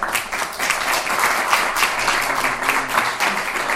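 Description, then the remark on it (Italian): A council assembly applauds a new councillor, many hands clapping in a dense, continuous patter that holds at an even, fairly loud level throughout, with no voices standing out. “Lo so che non mancherà, e quindi non possiamo che farle, credo, a questo punto un applauso.”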